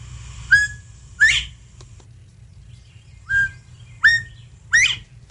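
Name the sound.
whistle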